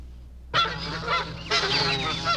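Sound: geese honking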